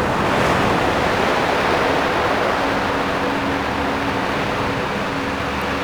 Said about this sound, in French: Le claquement des vagues. Couleur vert et morote. Sur un fond turquoise.